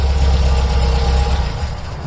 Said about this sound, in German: Wenige Minuten nach dem Anruf hörten Timo und Corgi auch schon sein Auto.